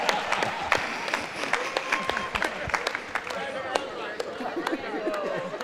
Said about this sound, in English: Let's clap for you.